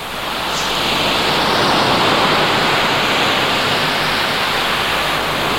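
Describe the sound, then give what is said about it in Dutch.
A steady, loud rush of surf-like water noise fills the whole stretch, broad and hissing without distinct breaks between waves, and no voices are heard. “Hij zal in de golven ten onder gaan.”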